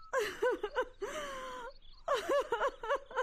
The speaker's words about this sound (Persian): گریه نکو میگم. قلبم درد گرفته مادر. دیدی؟ دیدی که چی کردی؟ قدر گریان کردی قدر گریان کردی قلب درد آمد.